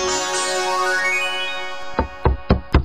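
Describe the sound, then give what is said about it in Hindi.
Four quick, heavy knocks on a door ring out near the end, following a sustained tonal hum that fades away. The knocks are loud and evenly spaced. “अरे आ रहे हैं आ रहे हैं, अब क्या दरवाजा तोड़ोगे?”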